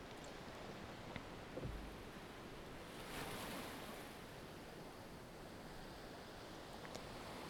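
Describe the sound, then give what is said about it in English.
Steady ocean surf rushes and hisses against a sandy shore, waves washing up onto the sand and receding, with a swell building around the middle before easing back into a continuous wash of waves, no voices present. “See the waves washing up onto the sand and receding back towards the ocean, washing up and flowing back down. Enjoy the ever-repeating rhythm of the waves.”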